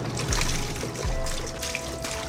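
Milk pours and splashes into a drain, a continuous rushing gurgle with low glugging swells, unbroken, with no voices.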